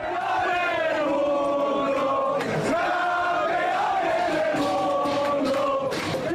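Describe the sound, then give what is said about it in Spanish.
A group of voices in Jorge Martín's pit box at the Montmeló circuit in Barcelona shouts and cheers together in loud, sustained, pitched cries that rise and fall, a jubilant team celebration minutes after he won the MotoGP world title, carrying on without pause for several seconds. “Este fue el grito más escuchado ayer en el circuito de Montmeló, en Barcelona.”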